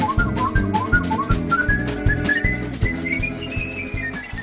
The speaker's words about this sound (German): My motto, or my mission, if you will, is that whistling is an idea whose time has returned. Whistling must have been, of necessity, the first musical instrument. It's almost like it's in plain sight, but people have forgotten it.